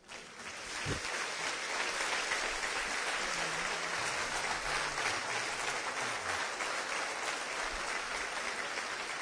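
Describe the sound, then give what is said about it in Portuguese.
Sustained applause from a large crowd after a religious speech, a dense, steady wash of clapping that rises quickly and holds at full strength throughout, with faint scattered voices beneath. “Não aplaudam o meu discurso, não. Se você realmente ouviu Deus, aplauda o Senhor.”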